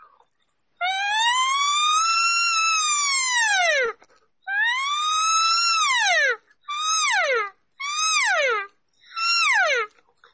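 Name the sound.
voice imitating a siren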